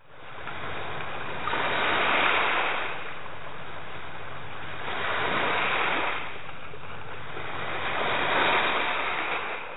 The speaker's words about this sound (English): You heard Chesapeake Bay waves, children swimming at a public pool, and water coming out of a fire hose.